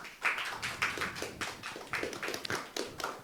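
A stretch of audience applause, many hands clapping in a steady, dense patter at moderate volume for a few seconds, with no voices over it.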